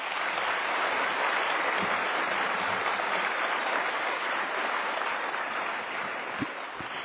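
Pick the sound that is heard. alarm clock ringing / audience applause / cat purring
audience applause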